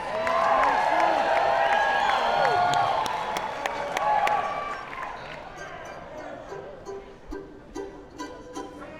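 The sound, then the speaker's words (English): A large crowd applauds and cheers loudly, with dense clapping and shouting voices that swell for several seconds, then thin out into scattered claps and murmurs. “We need to show them folks in Atlanta how you applaud.”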